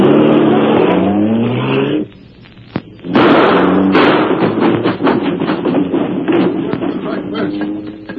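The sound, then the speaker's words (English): A car engine revs hard and climbs in pitch, cuts out briefly, then loud splintering crashes and thuds burst through as the car drives straight through a fence at the rear, with the engine roaring and rattling on afterward. “The car. Get in, I'll drive.”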